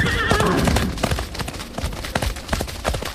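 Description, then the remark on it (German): A riderless horse whinnies with a high, wavering call at the start, followed by a steady run of hoof clops striking hard ground. “Ein hübsches Pferd schicken die uns.”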